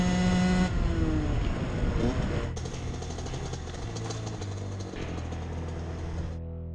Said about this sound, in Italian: Ferdi e Kevin spengono i motorini e li appoggiano contro le vecchie sbarre di ferro arrugginite.